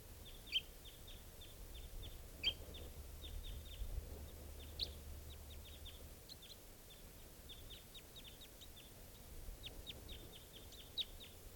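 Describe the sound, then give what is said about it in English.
Rapid, high-pitched bird chirps repeat in quick bursts throughout, fairly faint over a steady low rumble, with a few sharper louder notes standing out now and then. “We just got that male, and there's still another bird here.”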